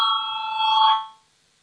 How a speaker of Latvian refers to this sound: Lūdzu zvanu, balsosim par pirmo deputāta Kirštēna priekšlikumu.